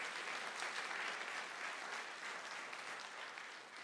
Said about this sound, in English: Somebody give the Lord a clap offering in here.